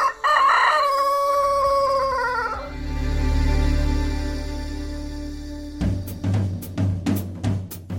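A rooster lets out one loud cock-a-doodle-doo lasting a couple of seconds, followed by a low rumbling lull and then a burst of rhythmic, percussive sounds.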